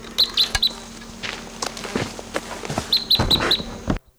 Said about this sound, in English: Number one calling there. Those birds took off.